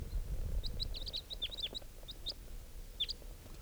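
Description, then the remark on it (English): A type 3 call-type bird, circling, calls in a quick series of high, thin chirps and short descending whistles, bunched in bursts with brief pauses, over a low rumbling background as it comes nearer. “Here's the bird that's different. It's coming near.”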